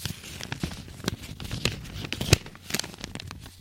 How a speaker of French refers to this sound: Le froissement ou creasing, elle consiste à froisser plusieurs matériaux comme le papier, le tissu, etc. pour émettre des sons relaxants.